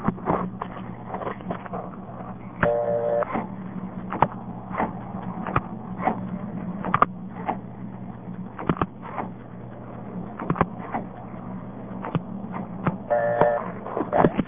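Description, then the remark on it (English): Sharp mechanical clicks and clacks of Bell System step-by-step switching gear in Oregon City, Oregon, stepping through the digits of a payphone number being dialed, recorded November 1969, irregularly spaced over a steady low hum, with two brief bursts of a tonal buzz. “Bell system step. I'll dial the payphone number.”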